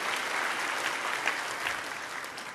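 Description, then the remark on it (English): Steady applause from an audience, a dense crackle of many hands clapping at an even loudness for a few seconds, with no voices over it. “I feel like you want to applaud.”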